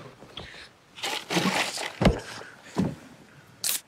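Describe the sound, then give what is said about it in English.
A beer can, taken from a cooler, cracks open: rustling and handling noises, a couple of sharp metallic clicks, then a brief bright hiss of escaping fizz near the end. No one speaks. “So he gets up from the cooler he's sitting on and cracks one open.”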